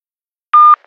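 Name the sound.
telephone tones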